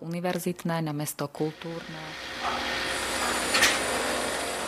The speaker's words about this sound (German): Doch noch ist das Herz von Košice eine Baustelle. Auf einem ehemaligen Kasernengelände, nur wenige Schritte vom historischen Stadtzentrum entfernt, entsteht das Hauptquartier der Kulturhauptstadt.